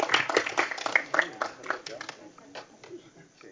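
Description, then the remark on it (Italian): Council meeting attendees applaud to welcome a new councillor, a brisk burst of overlapping hand claps that thins out into scattered, quieter claps toward the end, with faint voices murmuring underneath. “Un bel applauso da parte di tutti.”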